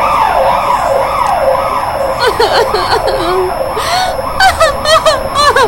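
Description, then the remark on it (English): A loud ambulance siren wails in steady rising and falling sweeps, then shifts into a faster, choppier yelp, over a low rumble of road noise. “When she listens to the sounds of an ambulance, she reminds this tragic day and she starts crying.”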